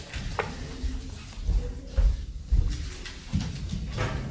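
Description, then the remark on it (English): A door is handled and pushed shut, closed but not locked, producing a series of soft thuds and creaks over a few seconds against a quiet background. “Can you just close that door, someone?”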